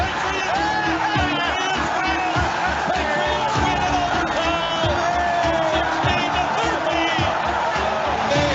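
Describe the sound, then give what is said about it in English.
A big stadium crowd roars in reaction to a field goal kick, a loud, unbroken wall of cheering voices with whoops and shouts rising above it throughout. “The crowd will tell you whether he makes it or not.”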